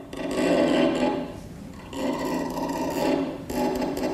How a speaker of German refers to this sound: Zu Beginn, die Bühne liegt noch im Dunkeln, ist da nur ein Knarzen, ein Kratzen. Töne einer Geige, die aber klingt, als hätte jemand statt herkömmlichen Saiten zum Zerreißen gespannte Drahtseile aufgezogen.